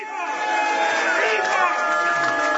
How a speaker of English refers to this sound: I don't know how well that comes across the air. Certainly it is far more booing than it is cheering here in the room.